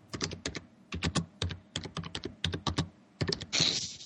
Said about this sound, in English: Somebody's typing.